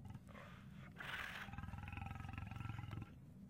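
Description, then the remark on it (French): A tiger roars in one long, loud, rumbling growl lasting a few seconds, forceful with a harsh rasping edge, before it cuts off. “Un tigre. C'est un tigre féroce.”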